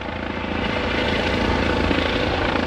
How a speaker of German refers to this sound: Nicht nur am Boden sind die Einsatzkräfte gefragt, denn das Eichkaterfeuer wird auch aus der Luft bekämpft. Mehrere Hubschrauber der Polizei, Feuerwehr und der Bundeswehr sind Teil der Großübung.